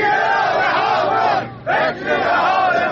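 A large crowd of retired Iranian steel industry workers chants loudly in unison at a protest in Lenjan, Isfahan, over unpaid pensions, many voices blending into a continuous roar with a brief dip in the middle before the chant surges back.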